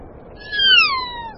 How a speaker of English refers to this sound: Alpine parrots, called kia after their calls. Living higher than any other parrots, these are possibly the world's most playful birds.